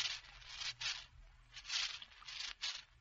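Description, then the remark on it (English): Ice-cold Coca-Cola poured from a bottle into glasses with ice: a soft, hissing, fizzy rush that swells and fades in several uneven surges, fairly quiet, with no voices. “Pour out the Coca-Cola.”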